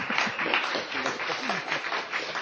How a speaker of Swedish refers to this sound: Välkomna fram. Så en till applåd till dessa eminenta.